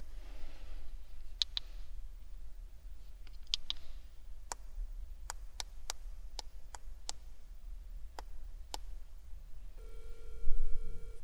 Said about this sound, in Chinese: 没反应，打个电话看看。